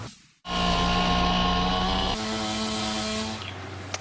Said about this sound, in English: The sound of chainsaws roaring through Bay Area neighborhoods today. In San Francisco, public works crews have had their hands full removing downed trees, and in some cases, they had to remove up to 20 trees in one spot.